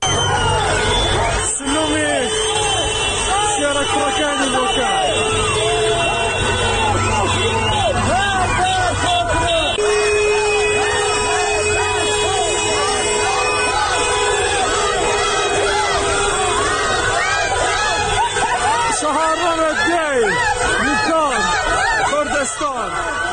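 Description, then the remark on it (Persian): A large protest crowd in Bukan, Iran, at a 40th-day memorial for those killed in recent protests, shouts and chants slogans including "death to the dictator" in a loud, continuous roar, voices overlapping in rising and falling waves, with a sharp bang early on and steady noisy babble throughout. “تجمعات در بوکان به دنبال برگزاری مراسم 40 جانباختگان اعتراض‌های هفته‌های گذشته شکل گرفت و معترضان شعارهایی از جمله مرگ بر دیکتاتور سر دادند.”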